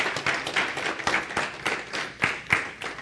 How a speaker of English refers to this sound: If you believe it, clap your hands unto Jesus.